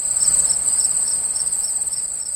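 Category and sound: insect, crickets chirping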